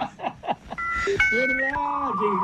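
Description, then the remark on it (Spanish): A voice imitates a dial-up modem connecting to the internet: a quick run of rhythmic, dial-tone-like syllables, then sustained buzzing, warbling tones that shift pitch in steps, held at a steady loudness. “Así nos conectamos a internet.”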